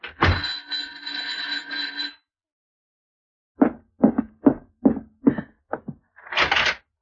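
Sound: knocking on a door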